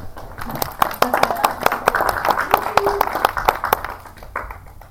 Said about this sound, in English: big round of applause